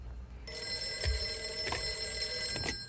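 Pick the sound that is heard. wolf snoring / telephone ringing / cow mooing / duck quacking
telephone ringing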